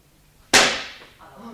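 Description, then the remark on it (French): A single sharp crack of an auctioneer's hammer at an auction of blue diamonds, loud and sudden, with a bright ringing tail that fades over about a second before a faint voice begins. “crie le financier, comme si le bruit du marteau venait de l'arracher un rêve.”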